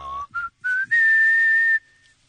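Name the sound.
person whistling a melody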